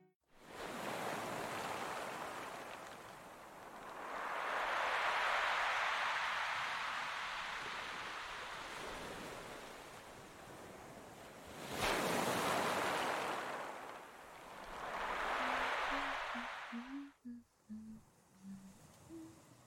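Ocean waves break on a beach on a warm, sunny day in long, rushing swells, a big one building and fading, then two more surges close together, each washing in loudly before receding.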